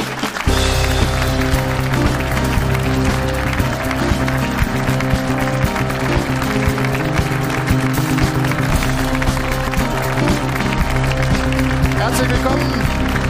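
A show's audience claps and cheers steadily to welcome a guest while a live band plays a loud, driving tune, the applause and music starting together and continuing at full strength throughout.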